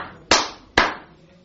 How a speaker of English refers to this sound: So the king, having received him, gives a clap.